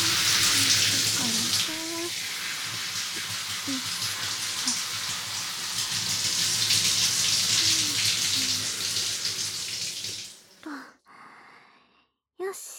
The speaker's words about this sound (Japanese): じゃあ、シャワーでヘッドスパのオイル流しちゃうね。シャワー行くよ。ヘッドスパのオイルは、しっかり洗わないと。